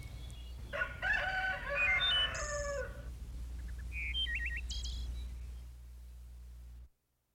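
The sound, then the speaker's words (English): A rooster crows once in the morning, greeting the new day, loud, its long harmonic call rising and trailing off. A few faint bird chirps follow over a steady low background hum before the sound cuts out. “And the rooster greets the new day.”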